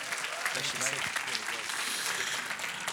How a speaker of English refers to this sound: Let's give him a massive round of applause.